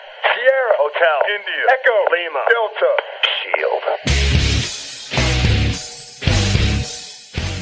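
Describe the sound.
A narrow, radio-filtered voice spells out Shield in phonetic-alphabet callsigns for a few seconds, then The Shield's loud, booming wrestling entrance theme kicks in with heavy, evenly spaced full-band hits as a match is about to start.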